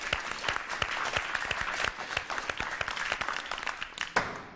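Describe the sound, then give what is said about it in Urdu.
Loud applause from a crowd in the second segment of a TV contest final, cheering a contestant who hit the arrow target, dense rapid clapping that holds steady for several seconds with a few sharper claps standing out, then thins slightly near the end. “ابھی وقت باقی, آخر کار کامیابی ملتی ان کو, تالیاں ہو جائیں زوردار.”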